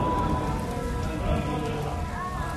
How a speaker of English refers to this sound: February 3rd was a particularly lousy Friday. Rain, then hail.